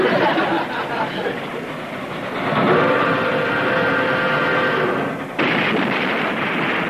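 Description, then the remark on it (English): A loud, close circus train arriving on an old spur track in a park rumbles steadily along the track, with a sustained high squealing tone, like brakes or wheels grinding, rising over the noise midway before abruptly cutting back to rough clatter. “That must be the circus train arriving in the park.”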